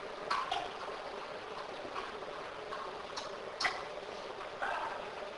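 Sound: flowing stream of water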